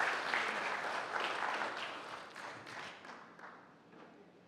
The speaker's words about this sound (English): let's give Jackie a round of applause